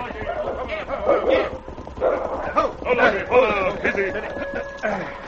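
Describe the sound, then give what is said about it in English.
A frantic animal fight: a dog barks and snarls while fighting three wolves, amid overlapping growls and yelps, the noise churning continuously with sharp bursts and no pause for about five seconds. “He snapped and charged first one, then another. He moved with lightning speed, leaping, charging, and dodging murderous fangs.”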